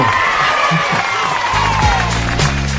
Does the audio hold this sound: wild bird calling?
no